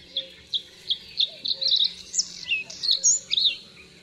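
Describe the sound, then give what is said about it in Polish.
A songbird of the nightingale family sings. Each phrase opens with sharp, crackling syllables evenly spaced at a calm pace, then gradually speeds up into a more melodious cascade of modulated whistles of varying pitch. “Każda zwrotka rozpoczyna się od ostrych, trzeszczących sylab wydawanych w równych odstępach w spokojnym tempie.”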